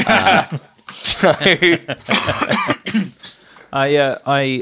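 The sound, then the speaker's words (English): A few rough, lingering coughs from a man still recovering from COVID break up loud talking, with a short burst of laughter near the end. “…'s cough there, a little bit of COVID cough still lingering.”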